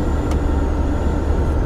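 The ventilation of Luna, an over-20-year-old VW Bulli van, whistles while driving on a road trip: a thin, steady high-pitched tone held throughout, riding over a loud, constant engine and road rumble, with a couple of brief soft ticks.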